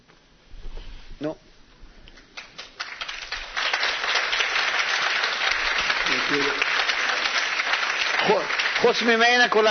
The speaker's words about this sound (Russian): Ну, кроме нее все аплодируют.